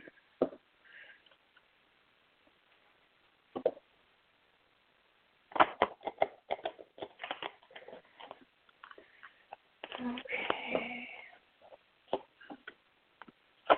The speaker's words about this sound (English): Okay, one second. Just have to shuffle the cards here.